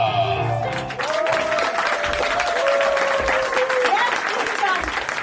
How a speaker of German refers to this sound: La Wanninger ist eine bayerische Kabarettistin der Extraklasse und... egal, klatschen Sie einfach für... The one and only Franziska Wanninger.